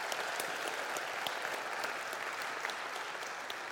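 Steady, dense applause from an audience, many hands clapping at once in a continuous wash of sound that holds at an even loudness throughout, with no voices standing out.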